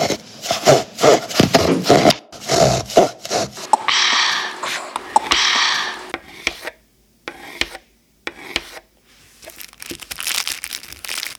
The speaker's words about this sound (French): Il suffit de couper les pains à un hamburger dans un premier temps.